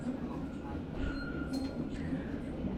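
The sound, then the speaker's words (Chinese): A subway train rolls steadily along the rails with a loud, continuous low rumble, a thin metallic whine drifting above it and a few faint clinks, heard from inside the carriage. “我还有三个站，你呢？”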